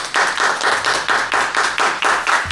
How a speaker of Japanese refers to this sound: イエイ、拍手。